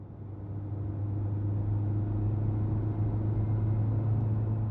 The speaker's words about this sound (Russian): Теплый воздух свистит в приоткрытом окне машины, обдувая взмокший лоб.